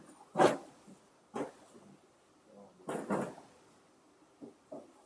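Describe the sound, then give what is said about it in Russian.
Chairs being set down on a hard floor: a handful of irregular wooden knocks and brief scrapes, with short pauses between them and no one speaking. “Можете, да, ставить стулья.”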